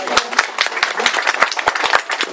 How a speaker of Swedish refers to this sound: Tack så mycket. En liten applåd för det tycker jag.